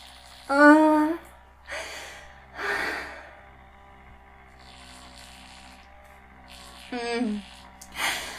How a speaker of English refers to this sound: Panting.